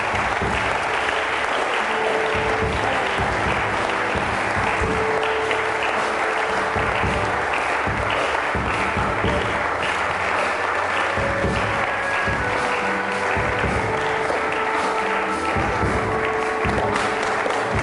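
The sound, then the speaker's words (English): A large audience at a prayer service claps steadily and continuously for people who have come to the front to be prayed for, a dense wash of applause for the whole stretch, with faint voices and cheers mixed underneath. “Keep clapping for them, please. Let's clap for them.”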